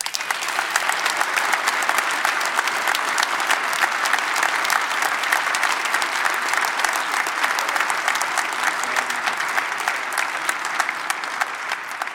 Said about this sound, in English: I'm getting a sense from the applause of where this audience might be coming from this evening.